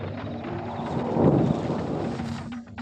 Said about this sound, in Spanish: Cae la lluvia, Salim. Se inicia la tormenta que durará toda la noche. Es un alivio sentir el agua fresca en mi rostro, en todo el cuerpo.